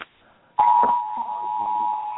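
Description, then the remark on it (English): A cell phone alert tone in Colorado: a single steady, mid-high electronic beep starts abruptly after a brief quiet moment and holds at an even, fairly loud level to the end, with no talking. “There goes the cell phones again.”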